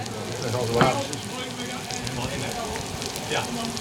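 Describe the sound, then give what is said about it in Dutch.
Steady crackling sizzle of eggs frying in a pan in a kitchen during a carnival day, where 180 eggs have been fried that day: a dense hiss with scattered pops and a brief louder spatter, with faint indistinct voices underneath. “hoeveel eieren heb jij gebakken vandaag? Ik heb er net 180 gebakken.”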